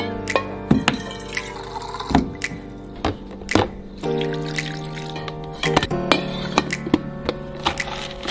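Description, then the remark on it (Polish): Someone prepares morning coffee in a drip coffee maker in the United States: water trickles and drips amid scattered clicks and knocks of handling, over a steady low hum, with no one speaking. “Chciałem wam pokazać, kochani, jak wygląda kawa poranna w Stanach, bo oni oczywiście no, mają te wszystkie ekspresy przelewowe, tak?”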